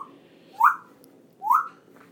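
A pet bird whistles a short song tune, two bright rising whistled notes spaced about a second apart over a low, quiet hum.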